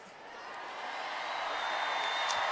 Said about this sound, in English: So they are simulcasting Kamala Harris into the bowl here at the United Center in Chicago. The crowds in both arenas going nuts. Hey, Milwaukee! Milwaukee happy to have Kamala Harris tonight.